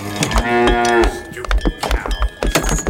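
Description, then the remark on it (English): A cow lets out one long, loud moo lasting about a second, followed by scattered knocks and shuffling noises. “Hey, cow, you got no shoes on.”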